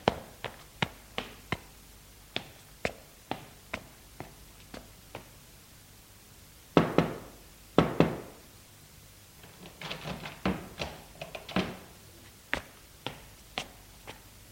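A father knocking sharply on his daughter's bedroom door in irregular runs, mostly quick and light, with a few heavier, booming raps in the middle and another cluster after. No voices.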